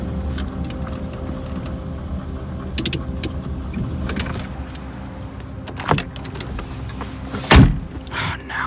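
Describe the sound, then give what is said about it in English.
A car with its lights off idles and rolls to a halt as it pulls over in a warehouse district, with a steady low engine rumble broken by a few mechanical clunks and a sharp, loud thud near the end. No one speaks. “Pull over right there.”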